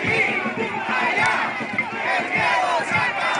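protesters shouting slogans

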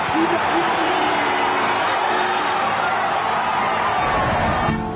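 crowd cheering

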